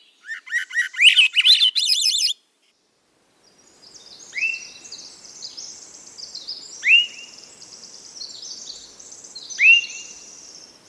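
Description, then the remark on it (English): A Swainson's thrush sings a reedy, upward-spiraling whistled phrase, clear, then fades into softer background birdsong with a few repeated whistled notes over the next several seconds. “That beautiful, beautiful, reedy whistle of the Swainson's thrush.”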